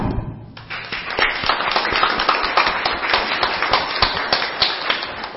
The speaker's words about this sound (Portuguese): Mas eu pediria a todos, de coração mesmo, porque eu não tive coragem, eu passei algumas vezes no local do acidente, eu não tive coragem de olhar e não tive coragem de ver, não tive mesmo, mas eu queria dar uma salva de palmas para o Hamilton agora.